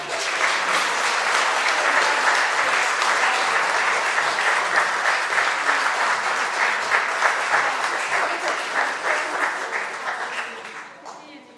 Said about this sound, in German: Ebenso möchten wir uns bei der Welt … für die tolle musikalische Begleitung bei den Gottesdiensten bedanken. Applaus.